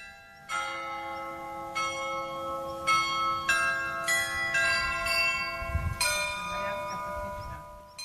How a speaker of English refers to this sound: more than 100 years, the historical bell chime at Prague's Loreto Church is getting a new melody. The song, entitled A Baroque Hymn, will be played on the 27 Bell Carillon for the first time on Wednesday evening at 6 o'clock.